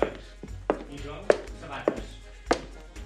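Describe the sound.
Five or six sharp, hard footstep thumps land at a steady walking pace, close and fairly loud, with faint voices murmuring underneath.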